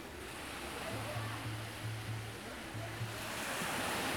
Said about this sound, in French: Vous sentez ce vent qui va vers le nord?